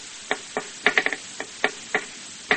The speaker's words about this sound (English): That's a pencil in the hand of a nervous worker. He taps it that way to help him think.